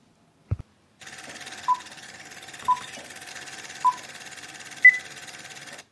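A medical monitor beeps four times at a slow, uneven pace, short tonal blips over a steady hum and faint background hiss; the last beep is higher and louder. A brief knock precedes them.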